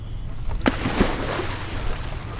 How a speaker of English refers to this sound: Okay, right hand over, covering the face mask, and your DV. Okay, there in front, there behind, big step off into the water.